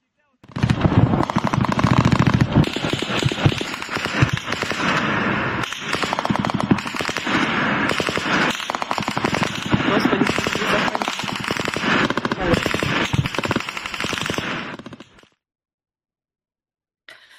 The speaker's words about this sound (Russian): Стрельба и взрывы слышны в районе мыса Фиолент и аэродромов Кача и Бельбек.